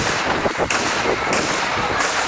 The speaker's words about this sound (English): In that online tape video, you can hear four shots being fired, sending a crowd running. Police say an argument between several young men turned violent, someone pulling a gun and opening fire.